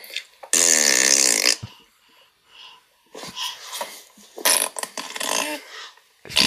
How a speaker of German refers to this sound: Ich finde das Hecheln im Hintergrund so ein bisschen verstörend. Ist krass.